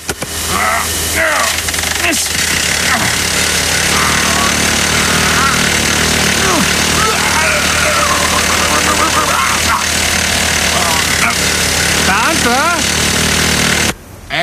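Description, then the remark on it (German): Early-morning construction site ambience at the Woltersdorf lock (Schleuse Ost) in Germany, with a steady, loud idling engine rumbling throughout, rough mechanical clatter layered on top, and indistinct workers' voices in the background until it cuts off near the end. “Vorhins frühs auf der Baustelle Woltersdorf-Schleuse Ost, wo sich hepatitisgelbe Bauhelme und ausgebeulte Latzhosen ein Stellsich eingeben.”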